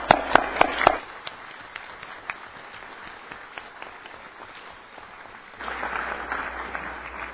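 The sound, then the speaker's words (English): An audience breaks into applause with a few sharp, loud claps at first, then a steady patter of many hands clapping that swells louder again toward the end, a short round of applause in recognition of the town's citizen volunteers. “In recognition of these citizen volunteers, I ask you to join me in a short round of applause for all of them.”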